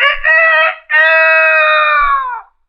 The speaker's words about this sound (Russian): Вы, конечно, понимаете, что осел только открывал рот, а кричал спрятавшийся под окном петух.